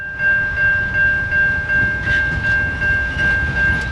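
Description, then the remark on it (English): A freight train headed to the Bunbury port in Western Australia rumbles steadily past on the rails, its wheels thumping in a rhythmic beat while a high, sustained tone hangs over the heavy low-end roar. No one speaks. “This train is headed to the Bunbury port.”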